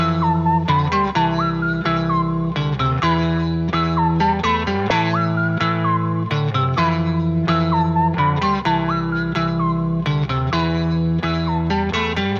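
A loud electronic dance mashup track with a dense, driving synth groove and a bright, repeating whistle melody riding on top, sliding between notes in short looping phrases with no voices.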